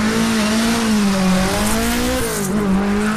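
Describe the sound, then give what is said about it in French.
Loud, steady roar of race car engines revving at a motor race in Irancy, France, a strong low harmonic drone that rises and dips slightly in pitch over a few seconds, with no talking. “Les bolides présents à Irancy ne sont peut-être pas aussi impressionnants que des Formule 1, ça ne les empêche pas de rivaliser en termes de décibels.”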